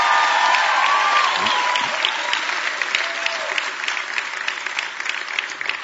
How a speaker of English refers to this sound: Can you give them a great big hand clap?